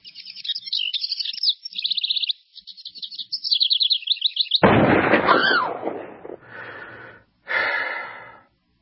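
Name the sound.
bird chirping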